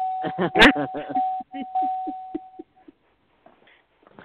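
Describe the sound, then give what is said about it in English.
A doorbell rings with a steady, sustained electronic tone for a couple of seconds, partly under voices, then cuts off into quiet with faint background noise. “You hear Marley Bell going off.”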